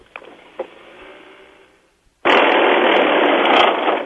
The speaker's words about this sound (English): So you're going to make the sound. The car's going to make the sound, and you're going to play it over your phone. You're in the car, and you're stopped at the moment, and you're going to step on the gas.